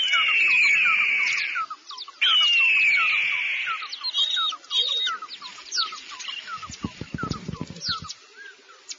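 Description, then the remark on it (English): An eagle screeches loudly, two long shrill descending cries followed by shorter squawks, with a burst of low thumping near the end. “The eagle Where?”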